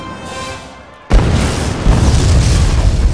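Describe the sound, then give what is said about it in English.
An incendiary grenade explosion bursts in abruptly after a second of low, humming quiet, then gives way to a heavy, sustained roar and rumble that stays loud until the end. “The detonation of the incendiary grenade hurled fire-wreathed bodies into the air, the concussion shattering bones and rupturing internal organs.”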